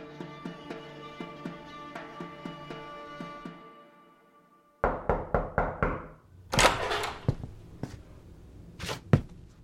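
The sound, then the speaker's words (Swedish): A quick run of five loud knocks on a bedroom door by a father waking his child one morning, followed by a few heavier scattered thuds, after a stretch of soft rhythmic tapping over a humming tonal background. “En morgon knackade pappa på min dörr för att väcka mig.”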